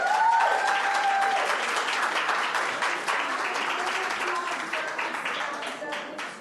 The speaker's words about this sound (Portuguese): Pessoal, deixa eu, me permita, as palmas são permitidas. Eu nunca proibi aqui.